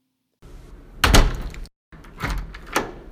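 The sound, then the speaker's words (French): A door swings shut with a solid thud, followed a moment later by a couple of sharper mechanical clunks as it is locked, with no talking. “Manteau fermé, bonnet enfoncé, porte verrouillée.”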